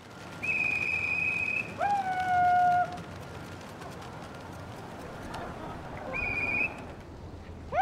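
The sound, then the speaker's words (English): Pigeons swooping, gliding, spinning and dive-bombing overhead through the night sky during a pigeon show on a dry evening, heard as steady high whistling tones that sweep past, with a lower gliding whistle, over a constant rushing, fluttery background. “But on another much drier evening, the show did go on to a sold-out house. And the pigeons put on quite a show.”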